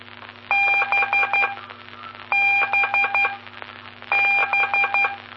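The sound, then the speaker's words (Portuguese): Three short bursts of keyed Morse code tones during a telegraphy lesson, each a quick run of clear beeps of varying length, with pauses between, over a steady low hum. “Com as aulas de telegrafia.”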